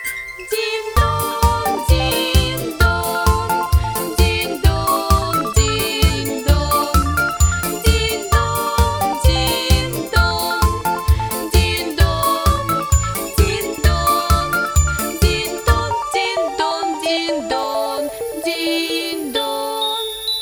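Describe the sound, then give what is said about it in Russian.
A bright, tinkling little bell melody rings out over a steady, pulsing low beat, continuing for about sixteen seconds before thinning to a few high, shimmering chimes. No one speaks. “Когда с ветерком разговаривал он, в лесу на поляночке слышался звон.”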